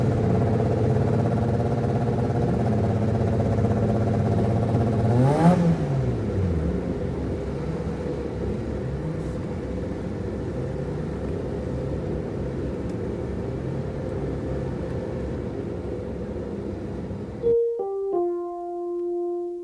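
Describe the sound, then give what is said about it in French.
A naturally aspirated engine roars loudly up close, with one sharp rev surging and falling early on, then a steady rumbling drone before cutting to a few clean tones near the end. “Premier plan sur un moteur sans turbo.”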